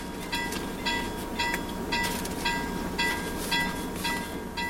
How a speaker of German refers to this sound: Zehnmal am Tag donnert dafür ein 8600 Tonnen schwerer Erzzug vorbei am kleinen roten Holzhäuschen im Abisko,